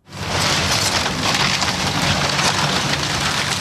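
The jaws of a large steam shovel crunch and splinter long, low-slung, motel-like wooden rental units on North Bliss Street in Mountain View, Anchorage: a loud, dense, continuous crackle of breaking timber with a low rumble underneath and no voices.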